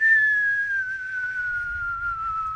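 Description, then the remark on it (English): A person whistles one long, slowly descending note, imitating an incoming missile falling through the air, clear over a faint low rumble. “I know they don't whistle like that, but it makes great effect.”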